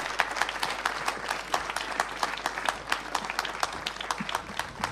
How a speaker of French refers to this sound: On va encore remercier Jean-Pierre Sinton, s'il vous plaît, sous vos applaudissements. Merci.